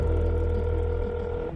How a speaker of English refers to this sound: I froze as my phone rang.